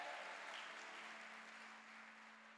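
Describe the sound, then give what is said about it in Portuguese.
An audience claps together for the Lord during a worship service in dense, continuous applause that holds steady for a few seconds, then eases off slightly at the end, with a faint low hum beneath it. “Dá uma salva de palmas ao Senhor.”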